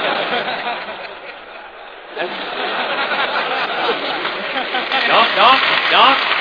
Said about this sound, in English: Don't applaud. If you like it, just throw cigarettes.